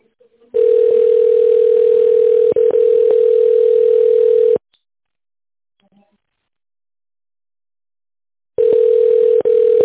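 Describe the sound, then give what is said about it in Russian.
A steady, mid-pitched telephone tone sounds for about four seconds, with a couple of faint clicks partway through, then stops for several seconds of silence before the same tone starts again; it is tone dialing of an employee's extension on a call to the company Antares. “Переведите телефон в тональный режим и наберите внутренний номер сотрудника.”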